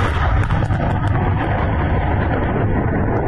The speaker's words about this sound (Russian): Взрыв на другом складе в Торопце Тверской области даже спровоцировал землетрясение магнитудой в 2,8 балла. Близлежащая деревня Цыкарево уничтожена взрывами боеприпасов и пожаром.